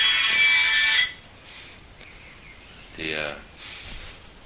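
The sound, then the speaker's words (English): A cell phone rings during a class with a loud, bright electronic tone for about a second, then cuts off, and a voice briefly sounds a moment later. “When the cell phones go off in class”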